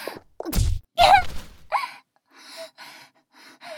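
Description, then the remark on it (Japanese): A heavy, strong punch lands with a deep thud, quickly followed by a pained gasping groan and a few ragged, breathy exhales trailing off. “強いパンチ。見えなかった。”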